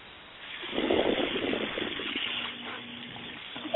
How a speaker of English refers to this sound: You hear the sizzle, my friend? I heard the sizzle, my friend. That's that steak going on the grill, wasn't it? You did. Yeah, that was a 3-pound bone-in ribeye actually, down here in Texas